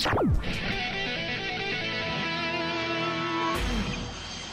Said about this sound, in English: Ah. What was that sound? I love that sound. That was a rock and roll sound with a plane. I love that sound. AKA, plane taking off.